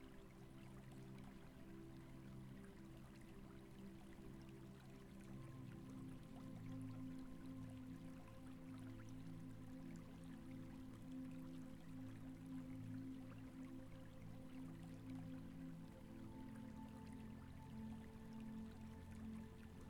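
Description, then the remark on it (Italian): Water flows and trickles steadily, with soft drips scattered through a continuous, even wash of liquid sound. No one speaks, and the level stays constant from start to finish. “lascia che l'acqua lavi il tuo corpo.”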